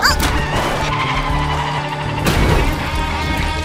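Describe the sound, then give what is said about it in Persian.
A race car brakes hard, its tires letting out a loud, sustained skidding squeal over the roaring engine, with a second surge of screeching near the end. “هر وقت گفتم ترمز بگیر باشه؟ چی؟ نه، میتونیم برنده بشیم. ترمز حالا.”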